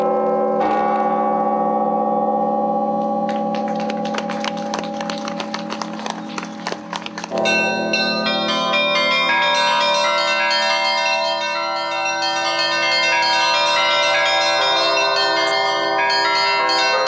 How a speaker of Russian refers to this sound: Председатель совета этого благотворительного фонда Владимир Якунин и директор музея-памятника Николай Буров первыми ударили в колокол.